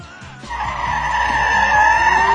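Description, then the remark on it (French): A truck roars in with a loud, sustained tire screech, the high squealing tone holding steady over a low engine rumble as it skids. “le camion du baron Helmut Munchausen avec une division de Panzer”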